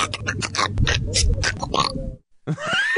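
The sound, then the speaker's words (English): A quick, choppy montage of one man's spliced vocal sound effects, grunts, snorts and oink-like noises, breaks for a brief silence, then returns with a squealing, rising cry. No words are spoken. “So I took all of his sound effects and put them all together in a montage.”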